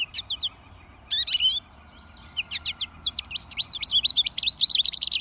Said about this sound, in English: And here's an American goldfinch saying "potato chip" and repeating notes.